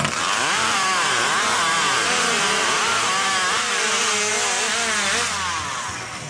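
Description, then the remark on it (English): A loud chainsaw roars continuously in a competition at the Grahamsville Little World's Fair in New York, its engine pitch rising and falling as it bites through wood, steady for several seconds before easing off slightly at the end. “It offers all kinds of competitions, from livestock shows to chainsaws.”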